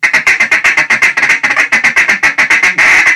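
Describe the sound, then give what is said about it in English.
A duck call blown in a fast, steady feed chatter: loud, raspy, nasal quacking notes repeated rapidly, about six or seven per second, ending in a slightly longer held note, with no talking. “You know, you're just mixing in quacks among things to sound like ducks.”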